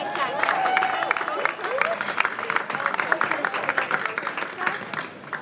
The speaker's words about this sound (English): Maybe if you give a round of applause for our two golf professionals we've got here. Both playing TaylorMade this evening, we have Dustin Johnson of the United States.